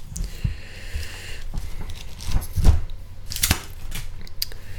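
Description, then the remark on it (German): Paper rustles and crinkles as pages of the book Methoden der homöopathischen Fallanalyse by Dr. Roger Morrison are leafed through, with several brief crisp swishes and soft flutters spread irregularly over a few seconds, moderately loud, with no voices. “Und blättern wir mal wieder drin.”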